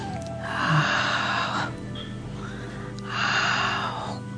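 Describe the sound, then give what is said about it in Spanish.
Two long, forceful breaths, each lasting over a second with a pause between, rushing and slightly buzzing, made in the jado kikyo vibratory breathing exercise, fairly loud with no talking. “Entonces hacemos un sonido de jado, jado kikyo. Respiración vibratoria o vibracional.”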